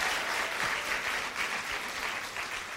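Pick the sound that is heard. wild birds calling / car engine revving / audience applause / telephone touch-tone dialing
audience applause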